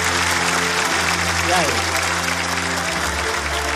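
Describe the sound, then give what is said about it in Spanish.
An audience applauds loudly and steadily for the whole few seconds, a dense wash of clapping layered over sustained tonal sounds that shift pitch partway through. “Todas las empresas, un fuerte aplauso para él.”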